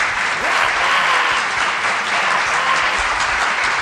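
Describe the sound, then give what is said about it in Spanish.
Sustained applause from a crowd, a dense, steady wash of many hands clapping at an even loudness throughout, with no voices standing out. “Madre mía, es que ahí esto nada, se merece un aplauso a cosa.”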